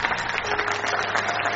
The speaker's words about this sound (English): Hallelujah. Let's clap for Jesus.